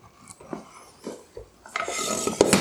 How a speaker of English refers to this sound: I am pouring the sauce into the noodles. And boy, oh boy, it looks pretty, pretty good.